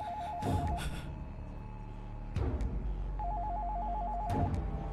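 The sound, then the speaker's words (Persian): A telephone rings in two warbling electronic trills, a rapid mid-pitched alternating tone repeated after a pause, with a few dull thumps and low rumble underneath and no one speaking. “فکر کنم بهتر جواب بدیم.”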